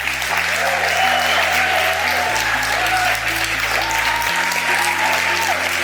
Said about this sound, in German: ein Applaus.